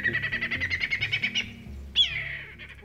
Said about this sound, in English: Australia is home to a lot of really interesting birds. We have screamers and cluckers and, you know, they make all sorts of crazy little sounds.